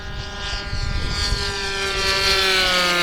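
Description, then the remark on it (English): A small unmanned propeller airplane drones steadily overhead, its engine whine holding a sustained pitch and growing slightly louder as it passes by. No one speaks. “Even though we have no physical contact with the airplane, you can feel the weight of the plane, speed.”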